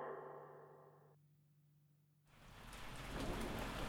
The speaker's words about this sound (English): It was late. The rain had just started to come down. It was going to be one of those flash floods.